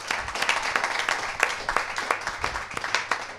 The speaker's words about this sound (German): Wow, dafür brauchen wir einen Applaus.